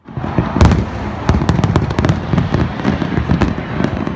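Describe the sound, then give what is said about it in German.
New Year's Eve fireworks, tons of them set off from rafts in the Atlantic bay off Rio de Janeiro, explode in a dense, continuous barrage of sharp cracks and deeper booms, loud throughout with rapid irregular bursts layered over a rumbling wash. “Tonnenweise Feuerwerkskörper werden da von Flößen in der Atlantikbucht vor Rio de Janeiro gezündet.”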